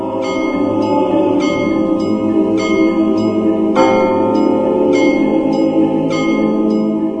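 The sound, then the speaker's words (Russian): Monastery church bells peal in a steady, overlapping rhythm, several bells struck in turn with long ringing tones that blend into a loud, continuous wash of chiming, with no voices. “И Дронов увидел сейчас теми глазами из-за бинтов, вставший вместо глуп трясины, монастырь с колокольным звоном.”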